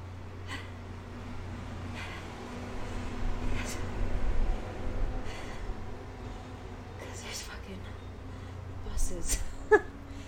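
Dump trucks rumble on the road outside in a steady, deep low drone that lasts throughout, with brief breathy, noisy bursts rising over it now and then.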